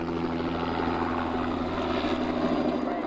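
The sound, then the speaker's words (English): A firefighting helicopter's engine and rotors drone steadily and loudly throughout, a constant low humming roar with a broad rushing wash above it and no voices; the chopper drops a 110-gallon basket, scoops water from a pond and dumps it on areas to keep them from burning. “After raining fire, the chopper drops a 110-gallon basket, scoops water from a nearby pond, and dumps it on areas they want to keep from burning.”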